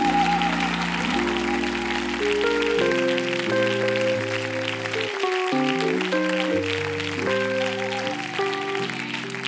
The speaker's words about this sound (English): Let's stand and give God a hand clap of praise right now.